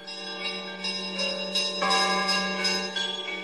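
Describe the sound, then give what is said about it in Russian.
Church bells ring out steadily late at night, a dense layered peal of overlapping strikes with long ringing overtones, fairly loud and continuous with no voices. “Поздно ночью кулич пришел под бодрый звон колоколов.”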